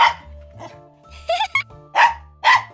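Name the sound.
dog barking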